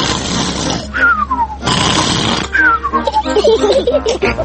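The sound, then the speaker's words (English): A voice imitates the loud, exaggerated snoring of Uncle Pig in the Peppa Pig cartoon, who falls asleep after eating too much lunch: rough, rasping snorts alternating with falling whistles on the exhale, repeated about twice in a steady rhythm. “Uncle Pig always eats too much lunch and falls asleep, snoring loudly, like this.”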